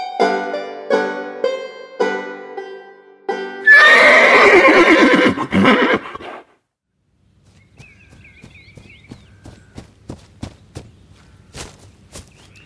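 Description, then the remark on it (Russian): A hunter's mare, with a prickly cactus stump shoved under her tail, gives a series of short, pitched nickers, then a long, loud, shrill whinny. After a brief silence, hooves stamp and clop in a steady, fairly even rhythm. “Подхватив с крыльца обрубок колючего кактуса, он кинулся к кобыле охотника и сунул ей под хвост свое орудие.”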